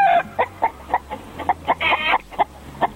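Chickens cluck in a quick, uneven series of short calls, with one longer, drawn-out squawk in the middle over a faint low hum.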